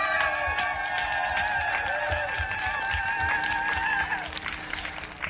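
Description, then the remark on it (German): An outdoor crowd on Augustusplatz in Leipzig, Germany, applauds at the 30th Leipzig CSD, with a steady patter of claps and sharp individual hand slaps, while sustained whistle-like tones ring over the clapping before fading near the end. “darf ich euch erstmal bitten, einen kräftigen Applaus von unserem Publikum einzufordern.”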